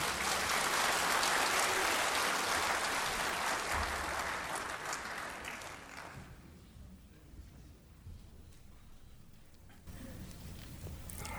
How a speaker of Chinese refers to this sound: 好，现在请大家鼓掌欢迎他。